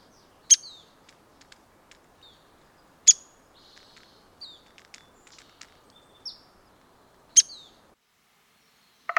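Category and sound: bird, downy woodpecker calls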